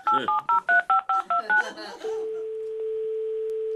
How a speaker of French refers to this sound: Prends mon téléphone portable, Maillot, et appelle le président.